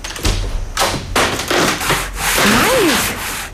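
Rough, scraping strokes of a saw cutting a piece off a wooden chair, repeating in an uneven rhythm, fairly loud, with a short squeak near the end and no voices.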